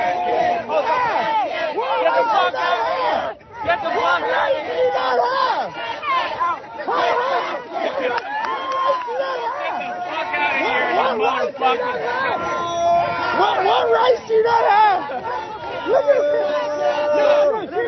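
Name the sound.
protesters screaming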